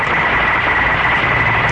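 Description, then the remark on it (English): Steady, loud AM radio static with a thin continuous whine running through the hiss, the sound of beacon noise on the band, with no voices. “Some beacon noise there.”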